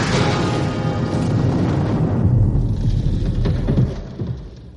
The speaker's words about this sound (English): It passed right over the bare wires, short-circuiting them. A huge explosion ripped the incubation room apart.